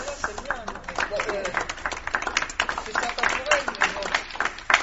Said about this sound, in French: Donc tu t'applaudis toi-même, voilà. C'est ça.